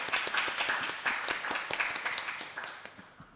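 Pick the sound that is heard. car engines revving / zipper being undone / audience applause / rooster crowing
audience applause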